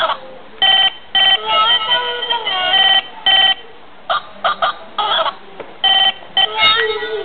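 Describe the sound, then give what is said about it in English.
A telephone rings in a series of short, bright electronic bursts with brief pauses between them, fairly loud, with a thin, tinny quality. “Let me phone up. Me call my mother.”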